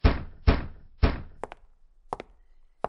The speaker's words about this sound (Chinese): 敲敲敲，你他妈催命不是？